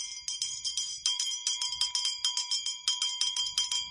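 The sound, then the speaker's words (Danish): A handbell rung rapidly and steadily to open the second hour of the session on the Radio 24/7 show Huxi og det gode gamle folketing, a quick run of bright metallic dings with a sustained ringing tone, fairly loud, with no voices. “Det er en dejlig klokke.”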